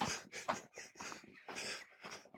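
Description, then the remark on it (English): A dog pants and sniffs in the Norfolk countryside, a quick run of breathy, rhythmic bursts of fairly even loudness, with no one talking. “Where's that varmint dog?”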